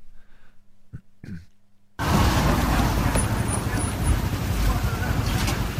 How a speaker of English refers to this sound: So police squad car rolling up on a gas station.